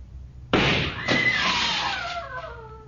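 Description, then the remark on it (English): A young Nazi soldier fires a gun in a street: a sudden loud gunshot, followed moments later by a second sharp crack and a ringing, downward-sliding tone that slowly fades away. No one speaks. “The boy who fired the shot shouted with joy.”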